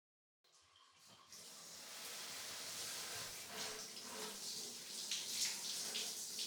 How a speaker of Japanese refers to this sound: 洗えましたか？はい、それではお背中をお流しいたします。